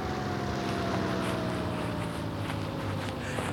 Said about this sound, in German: Und jetzt landet der Hubschrauber.